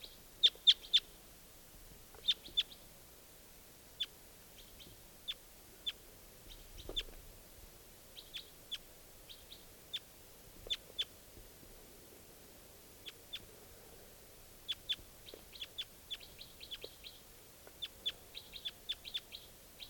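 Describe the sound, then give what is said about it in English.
A lone wild bird in the tops of larch trees calls over and over, short high-pitched chirps arriving in irregular clusters and bursts against a quiet, faintly rumbling background, with no one talking. “I think there might just be this one bird here.”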